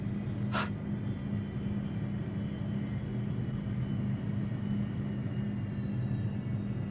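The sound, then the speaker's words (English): A steady, low airplane cabin drone hums evenly throughout, broad and constant, with a single brief click or tap near the very start, as the plane is shortly to land in Adelaide, South Australia. No one speaks. “We will shortly be landing in Adelaide, South Australia.”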